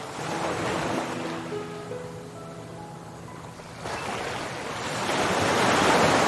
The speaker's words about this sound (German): Der tosenden Brandung entgegen.